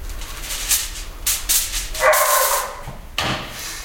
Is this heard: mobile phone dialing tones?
no